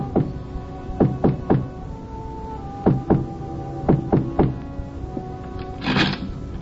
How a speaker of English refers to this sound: And then we came to a door, and Eileen knocked.